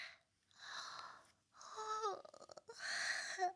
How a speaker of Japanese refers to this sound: あくびうつっちゃった。